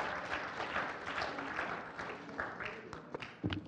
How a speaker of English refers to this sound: Let's give God a hand clap of praise tonight. Amen.